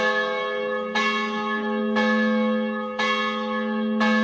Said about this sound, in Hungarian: Harangzúgás kíséri a lébényi templomból induló zarándokokat.